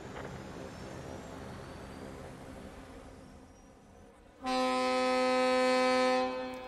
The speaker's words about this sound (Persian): پس مسیرمون رو تغییر میدیم تا یه فرود استرالی در صحرای شمالی ایبری داشته باشیم. برای بادگیری مناسب نیازه که بارها رو از باربند بیرون بیاریم. به زودی روی زمین فرود میاییم. ممنونم که با هواپیمای آتلانتا پرواز میکنید.